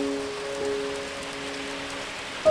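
Soft rain falls on the leaves of tall trees in a steady, even hiss with no break, joined by a faint low hum underneath and no voices.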